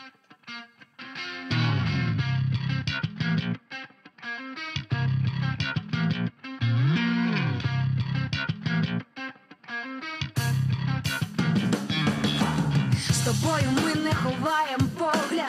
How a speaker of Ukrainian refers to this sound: більше про це поговоримо за кілька хвилин після музичної паузи. Друзі, відправляю вас на коротеньку пісню.